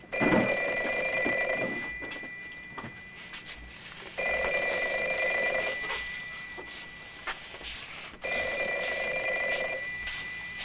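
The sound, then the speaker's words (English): A balloon phone rings as Max calls, in three long bursts spaced a few seconds apart, a steady bright trilling bell, with brief quieter gaps between rings and no one speaking. “I think Max is calling on the balloon phone.”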